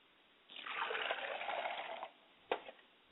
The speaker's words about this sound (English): I pour libation to the ground, because the words that we're about to speak today, may they fall on fertile soil, may they take root, and may someone come and water the fertile ground, and may God give the increase.